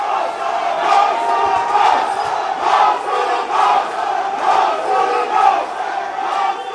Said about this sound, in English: He defied the rain, running up and down the sideline, waving a PNG flag. But he couldn't drown out the chants.